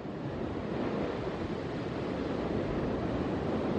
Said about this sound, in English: Tropical Storm Harold came ashore today with a vengeance, packing wind gusts of more than 60 miles an hour. All around me, those Gulf waters continue to wash ashore.